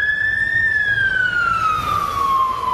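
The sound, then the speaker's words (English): A loud fire engine siren wails on a side street in London, its steady tone sliding lower in pitch as the vehicle passes, over a low rumble of traffic. “So we're here looking at London's soundscape, and as ever, there's a fire engine going by just as I'm talking.”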